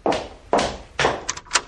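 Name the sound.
door opening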